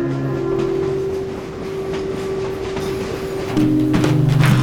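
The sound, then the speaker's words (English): A freight train rumbles steadily past a depot, a deep continuous drone with a humming engine tone and faint rail clatter, growing slightly louder near the end. No voices. “Finn and Cleo sit by the depot watching a freight train rumble by.”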